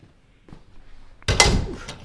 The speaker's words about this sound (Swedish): Du hör. Här utanpå dörren finns en liten inspektionslucka, låter så hemskt att säga, men det är precis vad det är. Man öppnar luckan och sen ser man ett fönster så att man kan se hur patienten mår där inne, vilket ju är jätteviktigt.